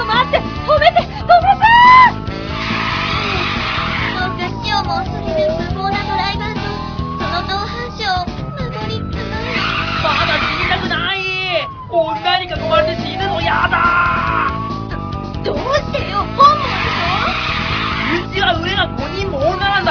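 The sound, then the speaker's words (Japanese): A car races at high speed, its tires screeching in repeated rising and falling squeals over a steady, loud engine roar, continuous throughout. “ちょっと飛ばすわよ。 そんなに飛ばすの？危ない。”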